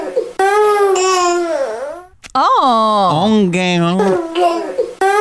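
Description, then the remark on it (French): A baby cries loudly, with long wavering wails broken by a short gasping pause, and a sudden drop near the end. “On fait toujours entendre des pleurs de bébé à Amy Fournier”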